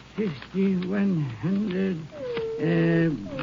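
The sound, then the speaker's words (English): A voice imitates a nervous dog, Rags, growling and barking at night in Irwin County, Texas, with four drawn-out, rising-and-falling yelps and growls in quick succession, fairly loud, with no other sounds around them. “As he was counting, his dog Rags appeared to be nervous.”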